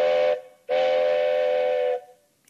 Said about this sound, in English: Well, horse, we are getting close to La Belle, Quebec. We just have to cross these railroad tracks before that train gets here.